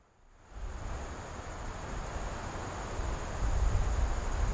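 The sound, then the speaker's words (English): A steady, high-pitched chorus of crickets trilling outdoors, faint beneath a wash of soft background hiss that grows gradually louder as the volume is turned up. “We'll just turn this up so you can hear crickets.”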